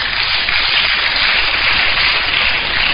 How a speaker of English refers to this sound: Shouldn't you clap for the person? Clap for her again.